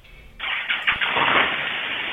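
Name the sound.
car engine starting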